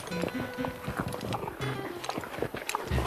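Repeated hoof clops from a horse moving at a steady walking pace, fairly loud, with faint background voices and clatter mixed underneath.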